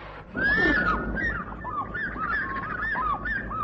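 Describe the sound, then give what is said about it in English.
An orange-breasted bushshrike sings: a rising, whinnying opening call followed by a steady run of short, looping whistled notes, clear and fairly loud over a low background rumble. “He's the orange-breasted bushshrike.”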